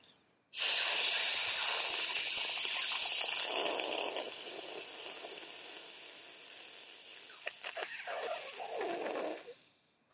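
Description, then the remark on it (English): A long, steady hiss of breath forced out through clenched teeth with the tongue just behind the teeth, as an exhale in a breathing exercise, loud, lasting about nine seconds and easing slightly in strength before cutting off, with no talking. “Then what you do is you put your teeth together, you put your tongue just in back of your teeth, and like an angry snake, you hiss the breath out.”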